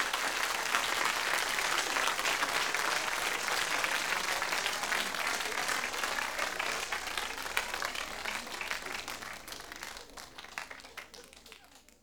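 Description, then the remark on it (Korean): An audience applauds the sound engineer recording the session steadily for about twelve seconds, a dense wash of many hands clapping at once, holding strong before gradually thinning and fading toward the end. “사장님 겸 기사님께 박수 한번 부탁드리겠습니다.”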